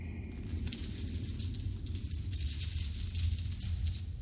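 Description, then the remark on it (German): Coins are carefully dropped onto the ground in front of a dwarf, clinking and jingling in a steady metallic patter for several seconds over a low background rumble, with no one speaking. “nähert sich dem Zwerg und lässt die Münzen vor ihm vorsichtig auf den Boden fallen.”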